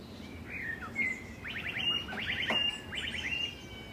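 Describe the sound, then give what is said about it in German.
A blackbird in Münster mimics an e-scooter's electronic alarm, repeating quick bursts of rising, beeping chirps in short series against a quiet outdoor background, with no one talking. “Also da hört ihr diesen Alarmsound von einem E-Scooter.”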